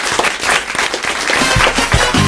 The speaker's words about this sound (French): Bah pour ça, on vous applaudit, on vous remercie, ouais. On vous dit bravo.